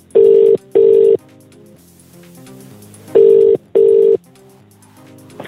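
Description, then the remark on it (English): A telephone line tone sounds in two paired bursts as a phone call is made, beep-beep, pause, beep-beep, loud, with soft background music playing beneath and no talking. “But in the meantime, I've got to make a phone call.”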